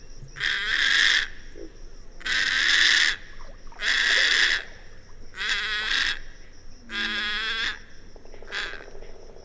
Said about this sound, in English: If you guessed a little blue heron, you're right. About half as tall as the great blue heron, the little blue heron is one of 12 North American species in the bird family of herons, egrets, night herons, and bitterns.